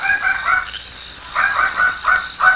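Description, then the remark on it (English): A dog barks in the distance at night, a quick run of three high, yelping barks, a short pause, then another rapid string of similar barks, fairly faint and with no voices. “No, that not sound like coyote. That sound like dog.”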